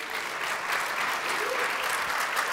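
A crowd at Rose Drive Friends Church applauds a missionary steadily, a dense wash of many hands clapping at an even, sustained level with no voices breaking through.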